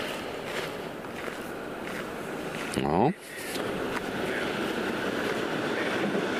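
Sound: train passing on rails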